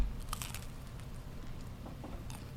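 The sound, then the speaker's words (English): A crisp crunch of biting into a fried stuffed shrimp, followed by a few softer crackly chewing bursts over a low steady background rumble. “The crunch on the underneath is key.”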